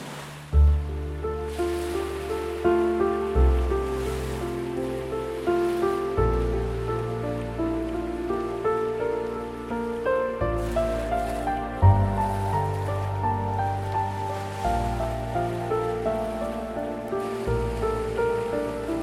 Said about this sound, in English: Allow the sound of the waves to continue relaxing your whole body.